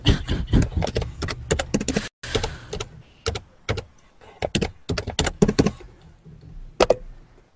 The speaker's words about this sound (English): Loud typing. Mm-hmm. Yeah. Gonna decode what you're typing by the sound of the taps.